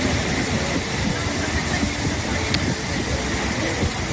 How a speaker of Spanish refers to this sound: Así suena el caudal del Guadalquivir a su paso por Córdoba.